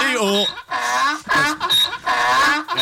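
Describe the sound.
A person loudly imitates a donkey's bray while kicking one leg out like a donkey in an exercise, a strained run of rising and falling hee-haw cries repeated several times in quick succession.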